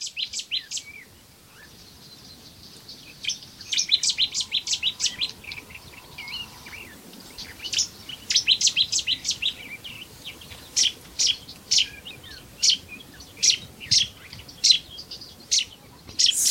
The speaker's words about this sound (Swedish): utan nu heter den Sumpsettia. Det är en sån här fågel som har bytt namn. Här låter den, ja. Helt riktigt. Smattrar igång så. Du spelade ju in den i din trädgård bara igår.